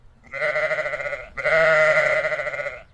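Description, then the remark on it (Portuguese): Two goats bleat twice in quick succession, loud, each call a wavering, nasal cry, with the second one longer and stronger. No one speaks. “Chegaram duas cabras.”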